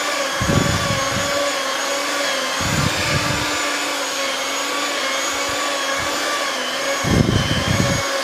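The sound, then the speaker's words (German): A dough kneading machine whirs with a steady motor drone, broken by three rhythmic low thumping bursts as the dough slaps around the bowl. No one speaks. “So, jetzt sind wir das mixen. Also mit einem Teigkneter.”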